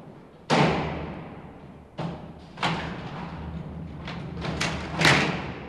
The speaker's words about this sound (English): One of the most profound things about the opening and closing of the doors is that it reminds me, and hopefully it reminds other people, that you know, you take all the right turns in your life, but you take one wrong turn, and you could end up in